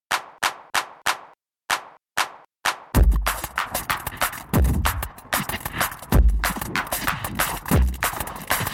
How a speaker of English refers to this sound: These 909 hand claps sit atop a composite of other percussion sounds that were not generated from the 909.